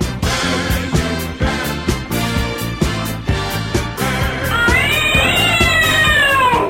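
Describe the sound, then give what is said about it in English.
A distressed cat meows and yowls loudly in a rapid, repeated series, ending in a long, drawn-out rising and falling yowl. No one speaks. “Was not a happy cat.”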